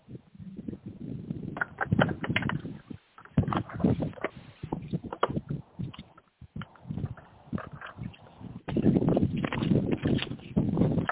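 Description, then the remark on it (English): A deck of cards being shuffled for a card reading about love life: papery riffling and rustling in several bursts, broken by brief pauses and then resuming, with no talking over it. “And I'm just shuffling the cards.”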